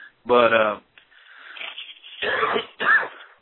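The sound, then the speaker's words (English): A few rough coughs and throat-clearing sounds in quick succession, with a raspy breathy stretch between them, fairly loud and with no speech over them. “But excuse my coughing tonight, folks.”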